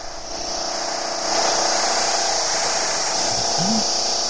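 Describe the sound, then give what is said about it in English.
A construction drill whines steadily and continuously, growing louder after a moment and holding a harsh, high buzzing roar throughout, with no talking over it. “A construction drill.”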